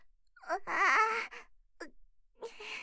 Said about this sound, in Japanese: じいじい泣いておるではないか。